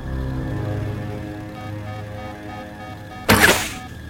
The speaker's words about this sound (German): halt mich fest, wenn ich den Pfeil abschieße. Aber ziele gut, mon ami.